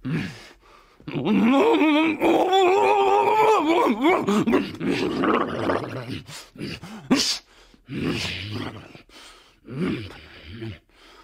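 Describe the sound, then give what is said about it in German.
A voice imitates a dragon landing and sneezing at the same time for a radio play: a long, strained, roaring groan rising and wavering for several seconds, then a burst like a huge sneeze, followed by a few shorter grunting breaths. “hat in einem Hörspiel mal einen Drachen zum Landen gebracht und ihn gleichzeitig niesen lassen. Nur mit der Stimme.”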